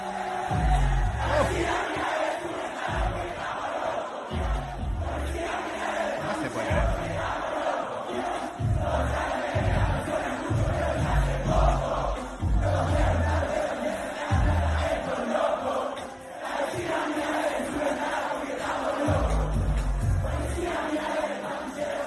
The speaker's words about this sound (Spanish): Porque vos viste el público gritando y lo tenemos en audio porque también transmite una cosa así intensa.